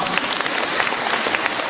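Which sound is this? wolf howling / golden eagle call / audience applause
audience applause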